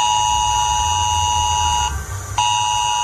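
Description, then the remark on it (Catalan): A loud, piercing mobile phone emergency alert tone, sounding during a Civil Protection test of the mass emergency alert system for mobile phones, blares steadily with harsh buzzing harmonics, briefly cutting out for a moment near the end before resuming. No one speaks. “Cap a les 11 del matí, tots els veïns de la zona poden rebre un missatge i el seu telèfon emetrà aquesta alarma.”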